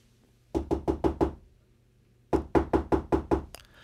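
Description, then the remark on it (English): Two bursts of firm, rhythmic knocking on a door, five raps then a pause and about six more, fairly loud with no voices; in a story, a fox knocking at Percy's door. “"Now there's someone else at the door."”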